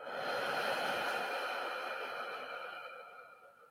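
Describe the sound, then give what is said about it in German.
A long, steady exhale during a breathing exercise, a soft breathy rush of air that gradually tapers off over a few seconds, with no talking. “Und atmen aus.”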